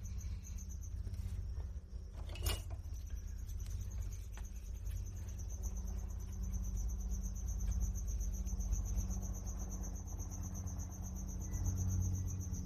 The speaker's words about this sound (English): Don't mind me if I keep throwing things, trying to get this cricket to shut up.